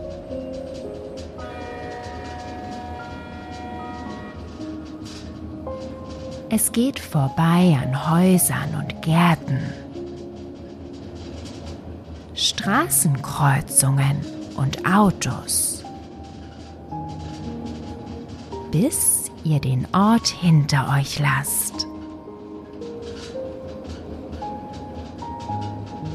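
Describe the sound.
A steam locomotive's steady rail rumble with sustained whistle-like hooting tones opens alone as it slowly starts moving, then continues quietly beneath three stretches of a man's calm narration as the train keeps moving.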